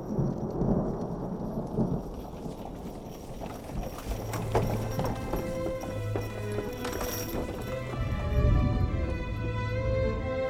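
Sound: thunder claps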